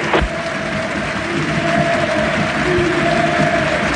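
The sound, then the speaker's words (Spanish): Steady, sustained applause from a large football stadium crowd for Chilean footballer Javier Altamirano as he comes on as a substitute, a dense wash of clapping that holds at an even loudness throughout, with a faint tonal hum running beneath it and no talk. “Y el aplauso para el chileno que vuelve aquí a Arroba Estadio Girchi.”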